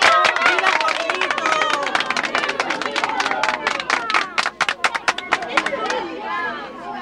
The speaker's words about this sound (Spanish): Todos aplaudían, menos Ignacio, que en lugar de ello, levantaba la mano para protestar.